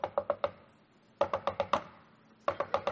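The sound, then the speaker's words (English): Repeated knocking on an office door by a young son, in three quick bursts of four or five sharp raps, separated by short pauses, fairly loud, with no voices. “Not 10 minutes later, I had a knock at my office door.”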